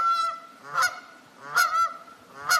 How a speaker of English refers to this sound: He's even sharing sounds and scenes of the island on social media for others stuck indoors. Here's geese hanging out by the water.